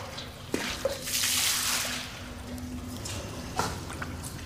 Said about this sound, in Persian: روشن روی گلشن آب میریزه.